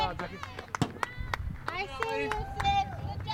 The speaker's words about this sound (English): Cuesta College in forest green uniforms is pitching against Pierce in blood red and black. The batter hits a foul ball, and the players and coaches cheer her on from the dugout.